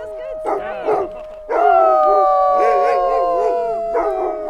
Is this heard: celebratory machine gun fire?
no